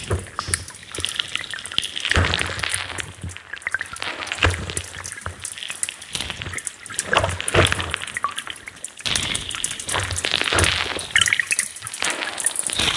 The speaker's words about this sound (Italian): un idrofono posto dentro la battigia, no? Sotto la sabbia, nel punto in cui il mare colpisce la sabbia, e si ha la sensazione sonora proprio, come dire, dell'interno della sabbia bagnata dall'acqua. Questo è un suono molto bello che a me piace usare.